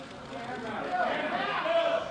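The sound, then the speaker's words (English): A crowd of reporters and community members, gathered to hear the announcement that Graham Spanier is no longer university president and Joe Paterno no longer head football coach, breaks into overlapping murmurs and startled exclamations, a dense, steady babble that swells slightly, with a few higher voices cutting through. “You can hear the shock there in the crowd of reporters and people in the community gathered to hear that announcement, which came last night and came suddenly.”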